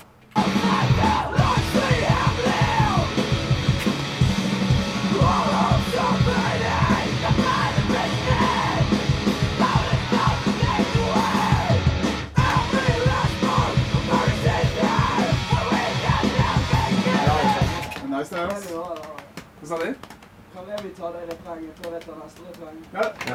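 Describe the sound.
Loud, raw screamed vocals over a dense, driving band for most of the stretch, then the music drops out, leaving shouting and yelling voices near the end.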